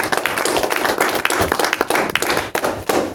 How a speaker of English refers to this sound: everybody, give him a clap.